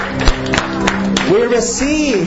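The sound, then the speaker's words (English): An audience claps in a steady beat of sharp, loud hits about a third of a second apart as a clap offering of glory to Jesus, then wavering voices rise and call out over the continuing applause. “Now, if you receive this anointing by faith, whether you feel anything or not, give Jesus the clap offering of glory.”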